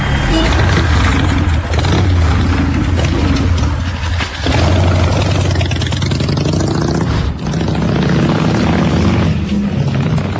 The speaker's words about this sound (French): Ah, c'est les taxis. C'est le taxi, là.